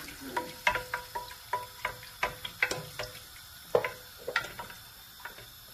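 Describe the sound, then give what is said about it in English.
A spoon stirs and scrapes around a hot pan of milk, giving a steady series of light, bright clinks and taps roughly every half second over a faint sizzle, with no talking. “And then as you pour the rest of the milk in, just keep stirring it.”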